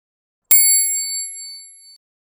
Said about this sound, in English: Turn the page when you hear the bell.